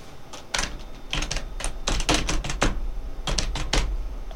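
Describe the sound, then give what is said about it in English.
Plastic bags crinkle and rustle in irregular bursts of sharp crackles, loud and clustered, with brief pauses between handlings and no voices. “Plastic bags, yeah.”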